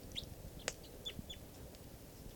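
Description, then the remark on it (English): A bird perched on the top rung of a net near a camp chitters in a few short, high, thin chirps, broken by one sharp click, over a steady low background rumble. “This is the bird that's on the net.”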